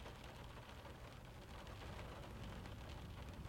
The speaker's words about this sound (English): Yeah, it was raining back then. Just like it's raining now. The footsteps, the conversations, the cars in the city. They were all put on mute by the rain.